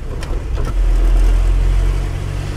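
A car engine hums steadily from inside the vehicle as it drives past the town hall into the town centre, with a low rumble that swells briefly as it accelerates, plus faint road noise and a couple of soft clicks.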